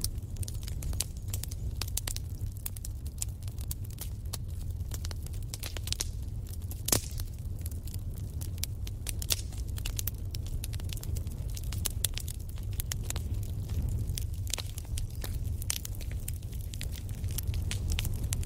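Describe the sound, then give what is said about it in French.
A steady wood fire in a fireplace crackles and pops throughout, with frequent sharp snaps over a low, constant rumble of flames, moderately loud with no voices. “Et laissez-vous bercer par le doux ronronnement du feu qui crépite.”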